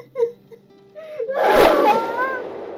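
A person with their face hidden in their hands breaks into sobbing: a few short catching breaths, then a heavy, shaky burst of crying with a rising wail that trails off.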